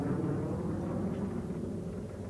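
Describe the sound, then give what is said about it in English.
A jet aircraft roars overhead, a steady, dense low rumble with a faint hiss on top that holds at an even level for the whole moment, with no voices. “Jet traffic.”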